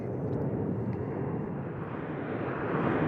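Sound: airplane flying overhead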